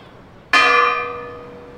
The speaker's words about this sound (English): What was sought was the convenience of the children and residents, and that the sound of the bells would be heard throughout the town.